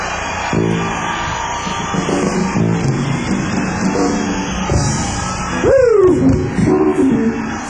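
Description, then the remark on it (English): A live audience cheers and yells in a steady, dense roar, with scattered shouted voices and a loud, falling whoop rising above the noise near the end. “Kick-ass crowd. Y'all are wonderful, man.”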